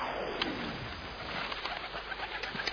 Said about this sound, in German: Oh, da fliegen ja mindestens 20 Tauben. Immer mehr kommen aus seinem Mantel und den Ärmeln.